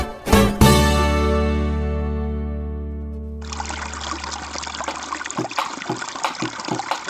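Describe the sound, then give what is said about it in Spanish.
A sustained musical chord rings out and slowly fades, then the steady flowing water of a river takes over, a continuous rushing wash with small splashes and gurgles, moderately loud. “Hoy el río suena, hoy el río canta.”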